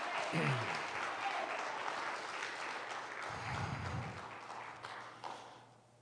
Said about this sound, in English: Somebody give the Lord a clap offering of praise here this morning.